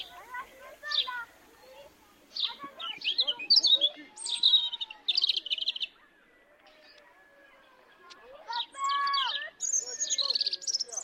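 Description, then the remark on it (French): A nightingale sings a rich, varied song of whistles, rapid trills and bright chirping bursts in short phrases, clear, with brief pauses between phrases. “J'aime aussi beaucoup les rossignols.”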